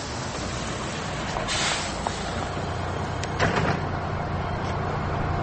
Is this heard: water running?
no